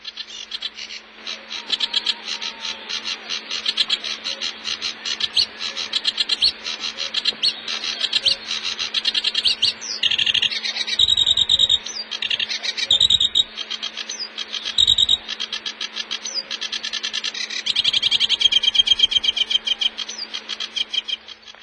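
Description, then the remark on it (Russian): Busy, chattering songs of reed and sedge warblers fill a lake and forest area of a national park, rapid scratchy phrases and trills overlapping continuously with a steady hum of insects or frogs behind them, no voices. “Да, в этом лесном и озерном краю обитает множество птиц, особенно тяготеющих к воде. Вот камушовка, барсучок.”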